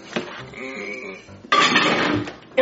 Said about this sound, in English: I'm gonna make my mommy a cake for Mother's Day. I'm gonna start with marshmallows. More marshmallows. Macaroni and cheese. Some syrup. All right, now I gotta put it in the microwave.